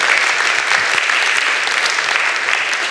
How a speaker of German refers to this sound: und wir freuen, geben wir doch Ihnen von Anfang an auch einen Applaus.